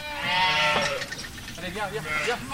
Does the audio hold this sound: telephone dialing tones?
no